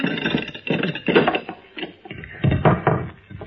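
A heavy wooden trap door being opened, with a series of creaking, scraping and knocking bursts over a few seconds and a thud near the end; no one speaks.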